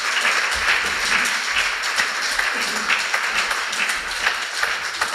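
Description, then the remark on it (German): An audience at a church service applauds to welcome a missionary couple working in South Africa to the front, a dense wash of many hands clapping at a fairly loud, even level for several seconds, with no one speaking over it. “Herzlich willkommen, ein großer Applaus.”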